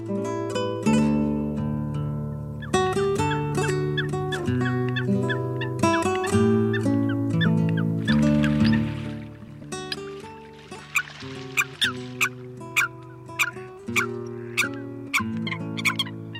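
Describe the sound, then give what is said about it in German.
Eurasian coot calls: a busy stretch of nasal, honking notes, then a series of short, sharp calls repeating at an uneven pace, loud, with no talking. “Das war das Blässhuhn.”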